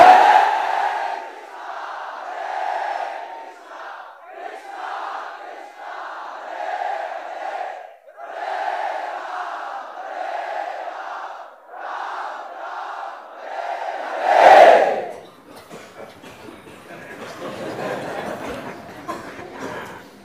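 A large crowd chants kirtan loudly in unison, voices rising and falling in a steady repeating call-and-response rhythm, swelling to a burst near the end before looser, scattered voices continue.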